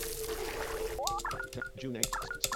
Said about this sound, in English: And that north wall just opened up. You're gonna go north again. And you're gonna hear this stupid water.